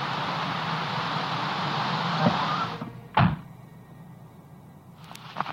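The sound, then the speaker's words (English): A stuck door of a half-buried car being forced: a steady roaring rush of noise cuts off, followed by a single loud thud, then quieter faint clicks near the end. “The car's half buried by now, which is probably why I couldn't get the doors open in the first place, but it could have been a non-visible apparition, I guess.”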